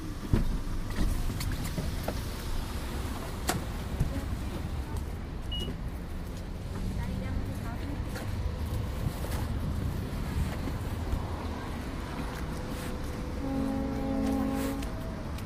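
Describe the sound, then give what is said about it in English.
A ferry boat rumbles steadily on the water amid gusty wind and lapping waves, with a brief low tonal blast rising near the end. “I hear the ferry.”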